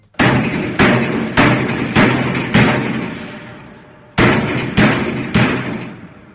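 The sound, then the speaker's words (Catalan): Loud, heavy banging by inmates echoes through a hard, reverberant space inside module 2 of Quatre Camins prison: about five forceful bangs in steady rhythm, a brief pause, then three more. No one speaks. Recorded in a video sent by two prisoners. “Aquest és l'ambient que respirava els cops dins la presó de Quatre Camins en un vídeo que han enviat dos presos del mòdul 2 i que ha publicat el Nacional, evidenciant que allò era una olla a pressió amb els interns molt nerviosos per no poder sortir”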